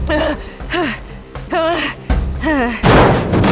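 A series of strained, pitch-bending gasps and grunts punctuated by dull thuds, ending in a loud, noisy crash as a body slams into a shuddering slide from below.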